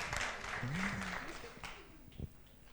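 An audience claps steadily in a dense, crackling wash of applause that gradually thins toward the end, with a voice briefly calling out over it.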